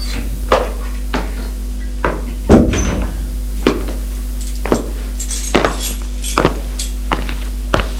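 An apartment landing door on the second floor of an apartment building opens with a heavier clunk and rattle among a series of sharp, evenly spaced knocks and thumps, with a low background hum.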